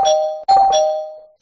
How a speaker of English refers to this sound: Hit the spoiler bell. All right, hit the spoiler.